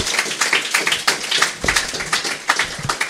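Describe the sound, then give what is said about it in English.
A panel audience applauds the introduction of the co-founder of the TV network and website Channel 101, a panelist with Rob Schrab. Steady, dense clapping, many hands patting at once in a crisp, bright wash that holds an even loudness for the whole stretch, with no voices standing out. “Yeah, that deserves applause.”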